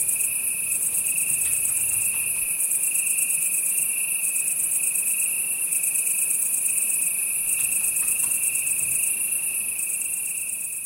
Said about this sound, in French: C'est Bruit de la nuit, 4 minutes 30 de Chant de Grillon.